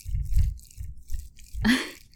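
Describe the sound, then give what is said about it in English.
Wet mouth noises and a gulp of swallowed saliva, with soft low thumps and a brief louder, slurpy burst near the end; no talking. “Sorry, I'm swallowing saliva. I am, like, you can hear the wet noises, right?”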